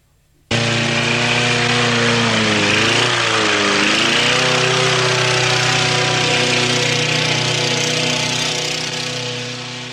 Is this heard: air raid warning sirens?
no